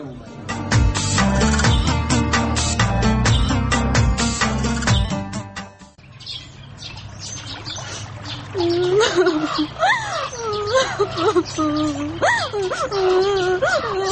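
Busy music plays for a few seconds, then gives way to a girl sobbing and wailing up close, her voice rising and falling in high, wavering, broken cries.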